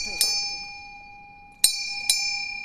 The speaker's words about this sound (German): Am vierten Tag läuten mir die Glocken, denn es ist Ruhetag und ein wenig Kultur kann nicht schaden